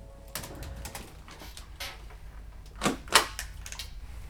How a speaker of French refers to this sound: Ta voisine de bureau, Zoé, agrafe une pile de feuilles. Elle place l'agrafeuse dans le coin en haut à gauche.